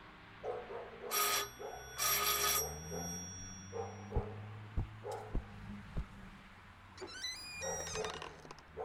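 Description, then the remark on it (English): A doorbell, rung by police officers at night, rings twice in long, bright, buzzing bursts, followed by a few dull thumps and a high squeaky creak. No one speaks. “From the way he looked, he'd been in bed when we rang the bell.”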